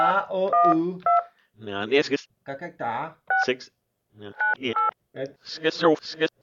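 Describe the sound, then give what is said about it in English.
A phone number is punched in on a keypad to call someone: a series of short, bright touch-tone beeps scattered between bursts of people talking over them. “Let's call him up. Give him a call. Hey, what's the number?”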